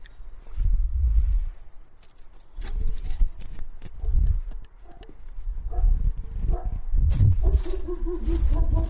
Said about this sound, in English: And the key is in the back of the door, and I can't open it. Gonna have to ring the doorbell, and here comes the barking.